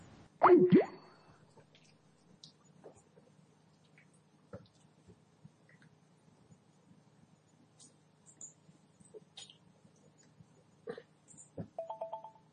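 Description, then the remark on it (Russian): Near the end, a short electronic phone ringing tone sounds as a phone call is placed, a pulsing beep at moderate volume. Before it, a thump at the start and scattered faint clicks. “Да просто позвони ему, ну.”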